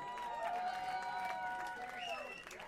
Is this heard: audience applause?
yes